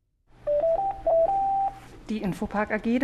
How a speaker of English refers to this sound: The phone's been ringing a lot recently at Infopark. The web services company has enjoyed strong growth this year, and it's hiring.